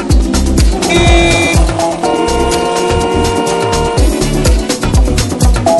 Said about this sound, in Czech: Klaxon troubí.